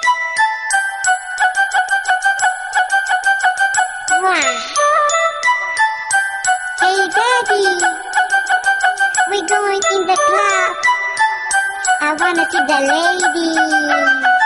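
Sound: mobile phone ringtone melody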